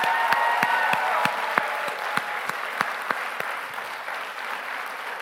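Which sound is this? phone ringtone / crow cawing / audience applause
audience applause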